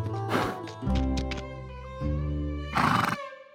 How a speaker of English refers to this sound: Because Spirit Riding Free has more natural sounds than a cartoon like Fairly Odd Parents, Heather needed some new sounds. We got a whole new horse library, because in that show, there's three characters who are horses